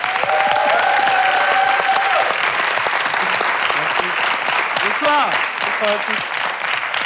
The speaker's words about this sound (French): Merci d'applaudir Alex Ramirez.